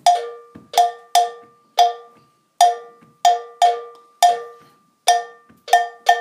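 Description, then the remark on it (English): A metal bell plays the main bell part of Kete, a rhythm from the Ashanti region of Ghana, struck in a steady, syncopated pattern, about a dozen sharp, ringing hits with short decays. Some strokes fall close together in pairs. The bell plays alone with no voices. “We're going to start with the bell part. So just the main bell part's going to go.”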